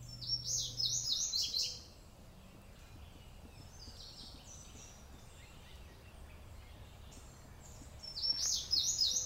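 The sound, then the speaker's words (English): Birds at Kessler sing in two bright bursts of high, rapid trilling chirps, one at the start and another near the end, with a quiet outdoor background in between. “As far as I can judge from all the singing, the birds favor green Kessler.”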